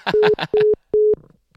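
A phone busy signal: three flat, mid-pitched beeps evenly spaced with short silences between. A voice talks over the first beep and trails off, and faint murmuring follows the last one.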